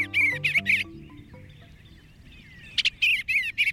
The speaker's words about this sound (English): It's a wistful moment when your backyard swallows or bluebirds depart each fall, like the tree swallows we're hearing now.